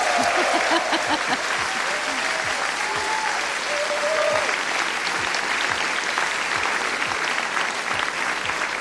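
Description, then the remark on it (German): A live audience at the Humboldt Forum in Berlin gives steady, loud applause with dense clapping throughout, a few brief cheers or voices rising above the clapping near the start. “Mach mal einen Applaus für die, dass sie sich auch begrüßt fühlen.”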